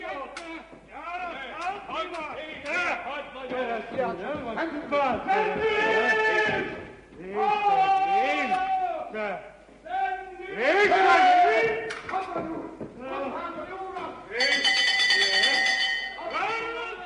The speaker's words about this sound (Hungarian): Jágó meghúzza a jelző harangot.